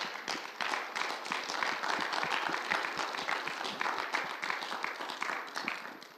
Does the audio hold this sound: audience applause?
yes